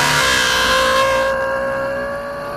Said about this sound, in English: She imagined Dr. Bigelove revving his Ferrari engine.